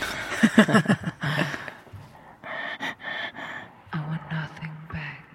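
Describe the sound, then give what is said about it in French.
A person makes a rhythmic beat from sharp breaths and gasps, huffing in and out in a steady pulsing pattern, with voiced vocal accents mixed in. “Mais par contre, la respiration, c'est fou, vous pouvez le refaire.”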